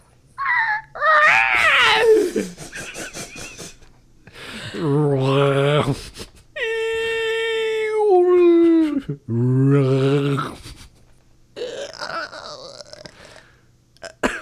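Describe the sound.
Voices take turns doing Chewbacca impressions, imitating the growling sci-fi creature: half a dozen loud, warbling yowls and roars that slide up and down in pitch, some strained and high, separated by brief pauses.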